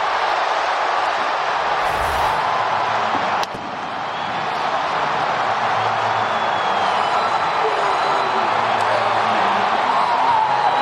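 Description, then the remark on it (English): A huge stadium crowd in Cleveland roars and cheers after David Fry's walk-off home run for the Guardians in game three, a dense, loud wall of voices that holds steady the whole time, with a brief dip and sharp knock early on before the noise swells again. “And shout out to Brian Anderson for letting the crowd take it.”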